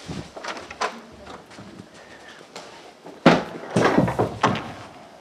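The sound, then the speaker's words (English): A chair is shuffled and dragged, with soft scrapes and knocks building to a couple of louder wooden thumps and scraping bursts toward the end. “I meant to get a chair.”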